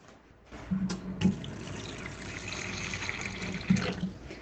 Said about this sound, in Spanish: El de los cajones, el agua,